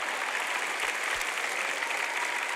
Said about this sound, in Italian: Coraggio, chi sta applaudendo? Una persona là in fondo, grazie.